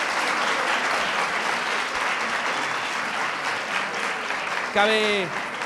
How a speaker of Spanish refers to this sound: Un total de 15 puntos. Un fuerte aplauso. Está bastante, bastante bien.